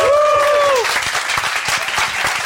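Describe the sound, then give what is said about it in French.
An audience breaks into loud, sustained applause for a guest being introduced, dense overlapping claps, with a brief rising musical sting or whistle-like tone at the start that quickly fades. “Monsieur 2020, applaudissements.”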